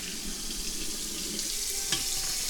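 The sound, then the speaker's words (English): Hot water runs from a faucet for making tea, in a steady, continuous hiss of flowing water, fairly even, with a brief clink near the end. “So, do we have any hot water yet coming out of the faucet? Yes, we do.”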